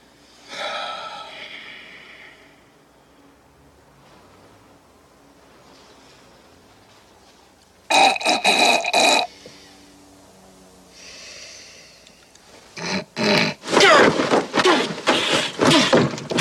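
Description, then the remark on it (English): Loud, wet nasal snorting in bursts to clear the sinuses: a brief one, a harsher blast after a pause, then a rapid string of forceful snorts to finish. No talking. “If I don't clear my sinuses, I'll snore all night.”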